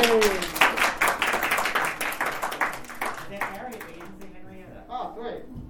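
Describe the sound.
A crowd claps in a steady burst of applause for about three seconds, then the clapping thins out and fades as voices start talking over it.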